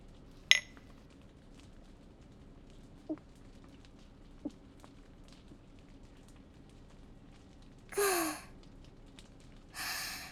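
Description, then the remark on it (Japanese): A single bright clink of glasses rings out near the start in a toast opening a small private wrap-up celebration, followed by a few faint taps and then two soft, breathy exhales. “ほんなら乾杯。”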